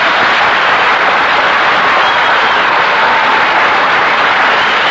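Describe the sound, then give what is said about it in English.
Loud, sustained applause from a large studio audience greeting comedian Milton Berle, a dense steady wash of clapping for several seconds with no voices rising above it. “Just like the rehearsal applause.”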